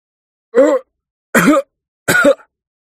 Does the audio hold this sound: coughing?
yes